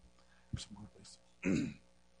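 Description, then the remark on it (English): A person clears their throat: a short rough catch, some low voiced rumbling, then a louder, harsher rasping clear lasting a moment before quiet. “But He wants you today to clear your throat first so you can pre-preach.”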